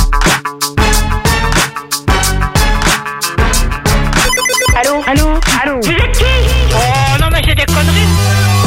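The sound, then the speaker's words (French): A telephone rings loudly in repeated bursts as calls go out to many phone numbers for the Double appel de Difool segment on Skyrock radio. Overlapping electronic ringtone melodies and swooping tones build into a dense, busy wall of sound with no talking. “Les voici avec plein de numéros de téléphone qu'on a testé juste avant et qu'on va connecter là maintenant.”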